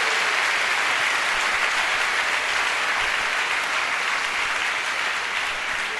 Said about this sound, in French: Ça nécessite de dire alléluia. It deserves alléluia from you. Ça nécessite des acclamations. It deserves alléluia and applause from you.